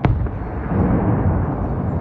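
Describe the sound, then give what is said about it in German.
A single sharp gunshot cracks out at the start, followed by a long, low rolling echo that rumbles on for about two seconds: gunfire from the Swiss Army's firing range (Waffenplatz) at Wallenstadt, St. Gallen, Switzerland. “Heute bei «Apropos» Schiesslärm.”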